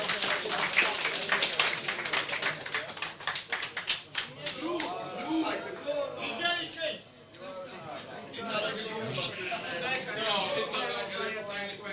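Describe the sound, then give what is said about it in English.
An audience claps for a prize winner called to the stage, a dense, irregular burst of sharp hand claps that thins out after about six seconds, as voices rise and carry on talking and cheering over the last scattered claps. “Give him a big clap, yeah.”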